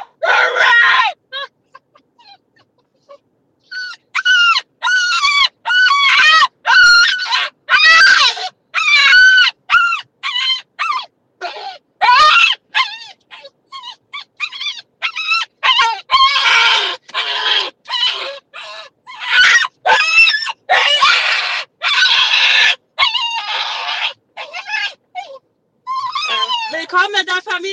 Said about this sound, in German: Also sie hat geschrien, als wäre sie ein Schwein auf dem Weg ins Schlachthaus. Also so wirklich, wirklich. Das könnt ihr euch nicht vorstellen. Es war so heftig.